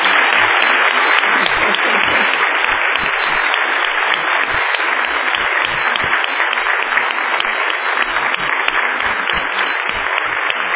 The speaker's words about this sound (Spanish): Un aplauso ahora, esto es mío.